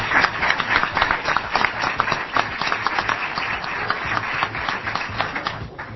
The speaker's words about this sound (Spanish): Sí, porque aplauden los chicos, aplauden ustedes, aplauden todo el mundo.